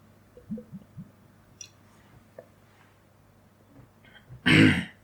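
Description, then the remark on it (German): Someone sips a drink: three quick soft gulps, a few faint mouth clicks, then a short, loud breathy exhale to finish. No talking. “Ich trinke nochmal einen Schluck.”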